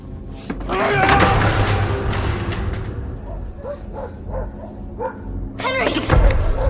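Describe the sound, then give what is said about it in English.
A pack of dogs barks and yelps in loud, overlapping bursts as it chases a man running to a black car, a frantic cluster at the start, scattered sharper barks in the middle, and another noisy flurry near the end. “Mr. Mills runs from a pack of dogs, gets to the black car and tries to open the door.”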